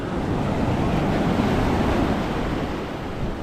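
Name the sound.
sea waves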